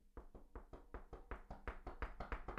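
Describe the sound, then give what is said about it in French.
Loud, rapid knocking on a wooden office desk, about fourteen hard thuds in a steady, quick rhythm, forceful, with no voices. “La personne arrive à votre porte et tape très fort.”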